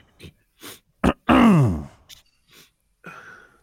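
Bam Adebayo clears his throat at a press podium: a few short, rough rasps, then a longer groaning rumble that drops in pitch, followed by a couple of softer hacks and a final gravelly rasp.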